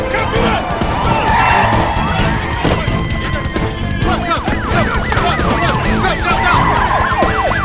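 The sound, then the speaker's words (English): Several police sirens wail and yelp at once, rising and falling in rapid overlapping sweeps, loud amid a dense rumble of street traffic, as a line of police cars speeds down the street. “A line of police cars fly down the street.”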